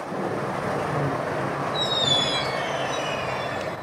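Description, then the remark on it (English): An electric passenger train leaving Oslo, Norway, early in the morning, powered by hydroelectric electricity, rolls along the rails with a steady rumble, and a thin, high wheel squeal rises about halfway through and lingers. No one speaks. “It's early in the morning and I'm catching an environmentally friendly train out of Oslo.”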